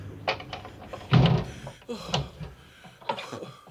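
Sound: window being closed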